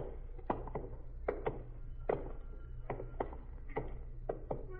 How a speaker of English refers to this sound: That knocking. I don't hear any knocking, Sergeant. Stop now. There it is. Sounds like somebody hitting a window.